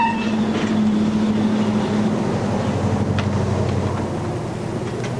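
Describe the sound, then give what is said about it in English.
A truck's engine rumbles loud, a low droning hum that shifts as the truck, driven into town through fog and light snow, slows and stops at a garage, settling into a steady idle with faint clicks and rattles over it. “Stops at JD's garage.”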